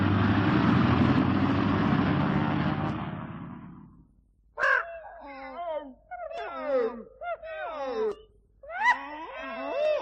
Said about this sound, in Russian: Скорее, скорее! Самолет отлетает! Слышишь, уже завели моторы! Посадка заканчивается!